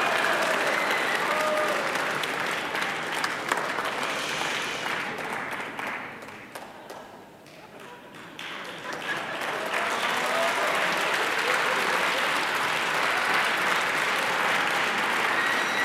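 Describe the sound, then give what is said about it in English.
Sustained applause from an audience at a live music performance, a dense wash of clapping that dips briefly midway before swelling back to full loudness and continuing steadily to the end. “Stop clapping.”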